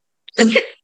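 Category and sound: human body sound, sneeze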